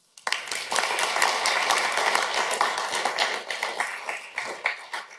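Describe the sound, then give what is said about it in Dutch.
A crowd breaks into sustained applause, many hands clapping densely and steadily for several seconds at a fairly loud level, with no voices heard over it. “Ik denk dat dat wel een heel groot applaus mag hebben voor jou”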